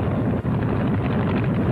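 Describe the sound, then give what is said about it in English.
An airplane engine roars in a steady, loud drone during a training flight, a dense low rumble that holds constant throughout with no voices and only a brief dip partway through. “Oh, let the motor roar.”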